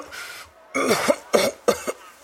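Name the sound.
cough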